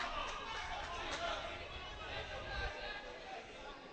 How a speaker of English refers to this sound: Hear the LB cheer from the Burrell bench